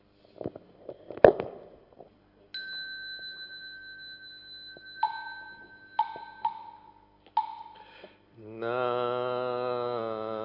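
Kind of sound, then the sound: signal or alarm, bell being rung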